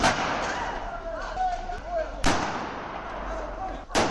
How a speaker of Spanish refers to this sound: Dos grupos de personas se gritan desde los extremos de la vía hasta que las voces dan paso a 4 disparos con arma de fuego. No dejaron heridos, pero sí mucho miedo vecinal.